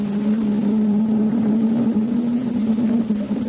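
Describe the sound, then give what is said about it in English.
A steady, droning engine hum with a strong low tone holds constant and fairly loud throughout: the engines of the first atomic submarine running underway, with no voices. “The first atomic sub was underway.”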